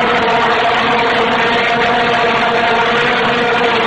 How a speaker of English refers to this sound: Are you familiar with the vuvuzela? They're loud, nasty instruments. You see them at soccer matches, right? World Cup 2010. This is what it sounded like.